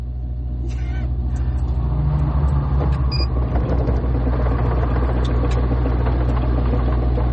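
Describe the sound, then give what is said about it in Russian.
A car engine, started by pressing a button and the gas pedal, idles with a steady, deep rumble and low droning hum, holding an even level after a slight swell at the very start. “Так, так, заводится машина.”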